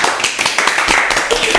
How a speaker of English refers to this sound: They all applaud the song.